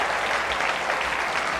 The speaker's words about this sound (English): Thank you. You can stop cheering now. My ears are hurting. Thank you. Ow. Oh, my ear.